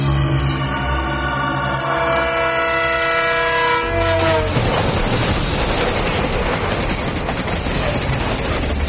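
An elevated railway train passes, a loud sustained horn blaring and dipping in pitch before giving way to a heavy, steady rumbling roar of wheels and cars.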